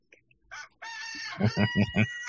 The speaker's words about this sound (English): I hear them. No, sorry. I'm just walking out now to put all the chickens away.